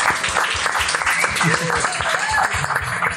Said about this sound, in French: Je vous demande s'il vous plaît une vague d'applaudissements